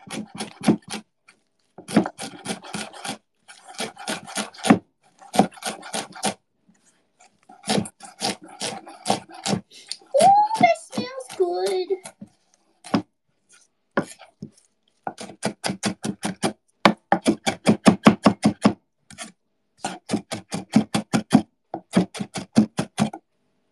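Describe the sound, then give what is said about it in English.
A knife chops cilantro rapidly on a cutting board, crisp, in several quick bursts of steady taps separated by short pauses, with a brief squeaky tone partway through and no talking. “Finally chop your cilantro.”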